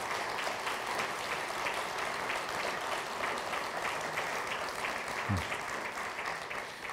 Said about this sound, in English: But thank you to each one of you who have. Can we have a round of applause for those who have served us? Yeah.